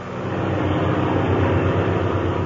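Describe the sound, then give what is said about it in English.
A steady, loud airplane engine drone hums continuously with a throbbing low rumble, filling the whole stretch without any voices, from a plane flying at 5,000 feet with Captain Midnight at the controls. “And as we find them now, they're flying at 5,000 feet.”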